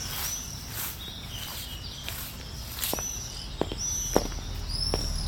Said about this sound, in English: Try to walk with the sound of my footsteps so that we can stay together.